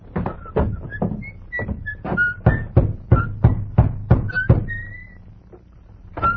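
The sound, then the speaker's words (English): A rapid, steady series of about a dozen sharp knocks on the wooden door of a small white cottage in the town of Carsonville, rapped by a rider in army uniform, fairly loud, with faint high whistling chirps around them, then a pause and one more knock. “He rode up to a small white cottage, dismounted, slapped dust from his army uniform, then rapped on the door.”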